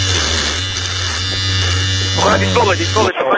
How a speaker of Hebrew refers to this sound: מכונת תספורת, מכונת תספורת. אה, זה מכונת תספורת?